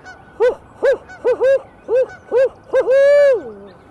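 A person imitates a barred owl call in a flooded forest to make the owls respond: loud, rhythmic hoots in quick succession, ending in a long drawn-out hoot that slides downward.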